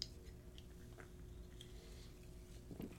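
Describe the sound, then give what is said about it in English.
Someone takes a quiet sip of Coke Zero soda, with a few soft, wet mouth clicks and a gentle swallow over a low hum. No one speaks. “All right, let's get into the bonus session after a sip of Coke Zero.”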